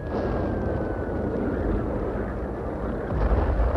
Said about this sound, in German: Nun drang auch das dafür charakteristische scharfe Krachen an unser Ohr. Bald darauf wurde das Aufflammen am Boden stärker und in das andauernde Abwehrfeuer der Flak mischten sich die dumpferen Explosionen der Bomben.